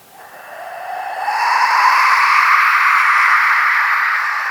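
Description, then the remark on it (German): A wind machine, a musical instrument, being played: a steady, airy whoosh that swells and rises in pitch over the first second or so, then holds loud and even, easing slightly at the end. No one speaks. “Denn es ist tatsächlich ein Instrument. Es ist ein Windmacher, ein sogenannter.”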